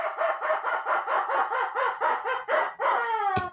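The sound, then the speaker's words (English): A rubber chicken squawks in a quick, even string of about ten honking squeaks, then lets out one long wheezing squeal that slides downward. It is loud, with no talking. “The rubber chicken says...”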